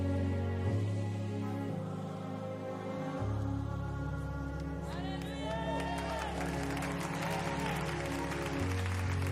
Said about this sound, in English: Well, if you're gonna clap, clap like you mean to. Come on. Come on, if you're gonna clap, clap like you mean to.